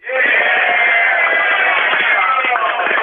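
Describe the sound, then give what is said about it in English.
A tour group in the village of Rokito Prihomenom yells out together in answer to whether they have had a good tour so far, a loud, sustained burst of overlapping voices, a dense crowd shout lasting a few seconds at steady volume. “And I'm going to have everyone else sort of yell out, do you think if we had a good tour so far or what?”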